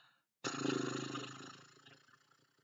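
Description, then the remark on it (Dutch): A single breathy lip trill, a 'horse breath' done in a guided exercise after shaking out the body, air blown out through loose, fluttering lips like a horse snorting. It starts abruptly, buzzes low and rough, then fades over about two seconds. “En nu met een paardenadem.”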